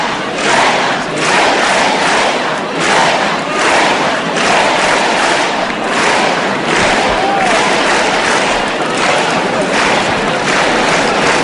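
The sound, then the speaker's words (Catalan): A large crowd in the town square shouts and cheers in celebration after a human tower (castell) is completed, a dense, continuous roar with rhythmic surges of chanting of "Vella, Vella" that rise and fall steadily throughout. “Mira, mira, els crits de Vella, Vella, per la celebració.”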